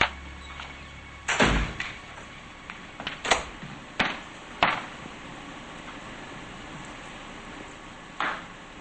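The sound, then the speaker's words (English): A door to a surveillance room is unlocked and opened: a few sharp clicks and knocks spaced out over several seconds, with quiet pauses between and a final softer clunk. “unlocks a door and walks into the surveillance room with the monitor of the Oval Office.”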